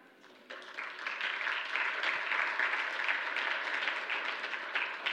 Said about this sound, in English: Yes, clap for that.